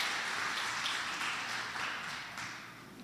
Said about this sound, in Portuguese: Aplauda o nome de Jesus.